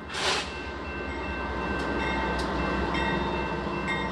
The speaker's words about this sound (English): Then you have to find a way to cross the train tracks, and perhaps you'll have to wait for a train to go by.